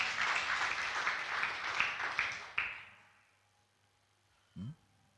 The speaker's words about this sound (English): Clap for the Lord Jesus Christ again.